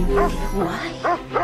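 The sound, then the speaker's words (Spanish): A dog barks four times in quick, uneven succession, short yipping barks, over a steady low background hum. “¿No has visto el perro?”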